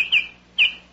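baltimore oriole call

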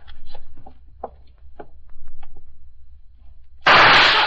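gunshot

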